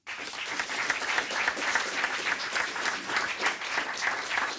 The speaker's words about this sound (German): Ihr Applaus.